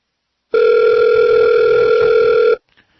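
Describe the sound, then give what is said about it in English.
A steady, loud telephone line tone holds for about two seconds as a call is put through on the Guy James Show, an unbroken electronic hum with bright harmonics, then cuts off abruptly into near silence with a faint click. “Let's head on over to the phone.”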